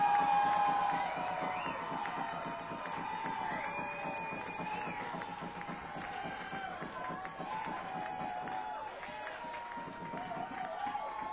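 A large crowd cheers and whoops continuously for a band, with scattered clapping mixed in, a dense, steady roar that starts loudest and stays strong throughout.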